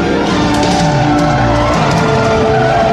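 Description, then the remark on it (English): Loud, continuous car noise with tires skidding and engines straining, pitched tones sliding up and down across about three seconds, as cars from the A-Team chase a car driven by a woman. No one speaks. “Some cars from the A-team are chasing them.”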